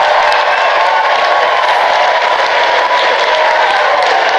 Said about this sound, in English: Listen to the crowd in New York.